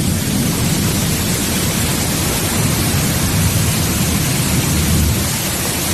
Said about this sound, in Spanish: Y esa noticia es que llueve, precipitaciones importantes en zonas muy necesitadas y que están siendo generalizadas. Se recogen ya cantidades importantes, por ejemplo, 65 litros por metro cuadrado en Càlig, 60 en Chodos